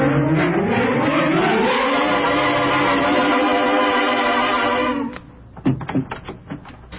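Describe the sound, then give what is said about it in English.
A sustained, rising harmonic tone holds for several seconds, then cuts off into a quick burst of sharp metallic clicks and rattles of a key in a door lock. “So loud with that key.”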